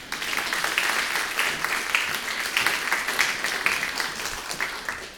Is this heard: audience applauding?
yes